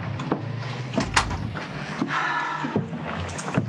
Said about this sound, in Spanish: Entra, por favor, y cierra la puerta.